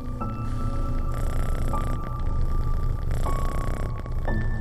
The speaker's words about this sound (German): Du spürst die Vibrationen des Schnorrens an deinem Bauch und die Wärme der kleinen Katze ebenfalls.